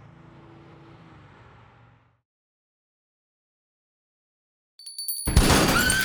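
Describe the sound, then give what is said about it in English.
After a low engine-like rumble and a stretch of silence, a loud shotgun blast blows out a glass door, followed by a bright spray of glass shattering that rings on to the end. “Wendell Poole blew the glass door out with a shotgun blast.”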